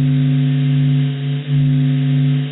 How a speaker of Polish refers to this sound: Ten dźwięk został wygenerowany na podstawie danych z sondy kosmicznej SOHO. Analiza fal dźwiękowych obecnych w naszej gwieździe pozwala na badanie jej wnętrza, niedostępnego dla naszych oczu.